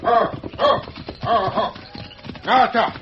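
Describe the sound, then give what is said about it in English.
A horse's hooves clip-clop away in a steady, uneven rhythm, fairly loud, while voices talk over the hoofbeats. “There goes his horse.”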